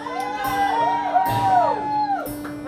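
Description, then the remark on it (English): A concert audience at a live music show cheers and whoops in a sustained, steady roar, with scattered high shouts and whistles rising and falling over the dense noise of many voices. “You really will cheer at anything, won't you?”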